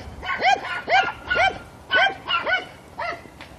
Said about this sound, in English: Oh, yappy dogs.